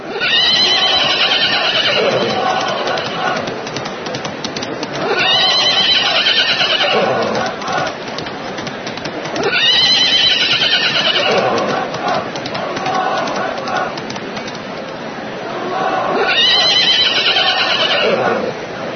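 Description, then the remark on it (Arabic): Horses whinny and neigh in a battle, in loud, shrill bursts that repeat about every five seconds, with a rough, busy rumble of hooves and commotion running underneath throughout. “قاتل جعفر بالراية المباركة قتالا شديدا حتى إنه لم يحتمل أن يقاتل راكبا فرسه، فرمى نفسه عنها وصار يقاتل الأعداء راجلا”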